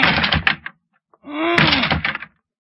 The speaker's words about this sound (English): I going to lunge at the door with my shoulder. All right, here I go.